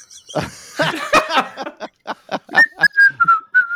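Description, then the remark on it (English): Someone whistles a short melody from the old Irish Spring soap commercial jingle, a string of clear notes that start after some breathy, choppy sounds and end in a steady, bouncing phrase. “That's good, like, medieval tavern music. It actually was the old Irish Spring commercial.”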